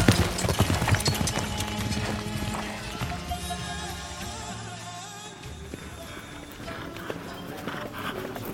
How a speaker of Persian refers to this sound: آنگاه قد راست کرد و بر اسب تازیانه ای زد و به تاخت به سوی لشکر پسر سعد شتافت.